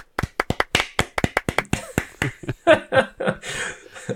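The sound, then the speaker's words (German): Applause and cheering: crisp, steady hand claps that grow denser and blend with shouting voices toward the end, all loud and without any speech over them. “nach Webstore auf einmal Applaus und Jubelrufe, oder?”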